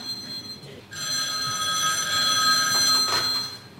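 telephone ringing

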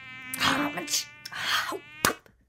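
mosquito buzzing

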